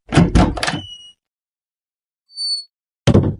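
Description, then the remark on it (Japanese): A door is pushed open with a series of heavy rattling clunks, followed by a brief high creak or squeal, then another solid clunk as it settles, loud with no talking. “お、この扉だ。”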